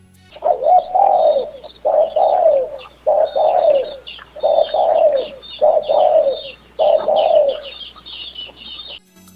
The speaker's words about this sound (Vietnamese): Con cu mồi bị nhốt trong lụp bắt đầu gáy vang.